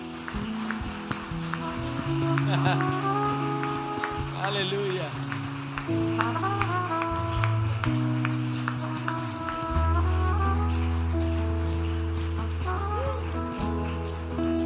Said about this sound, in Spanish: Aleluya. ¿Qué te parece si le damos nuevamente ese aplauso al Señor?